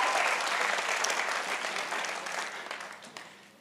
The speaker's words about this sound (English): Come on, give this guy a huge round of applause. Thank you.